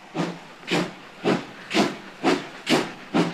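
A steam locomotive chuffs in a steady rhythm, with seven loud, evenly spaced bursts of hissing steam about half a second apart, clear with no talking.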